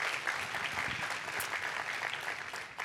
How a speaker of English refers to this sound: And today, yeah, we can applaud for all those people.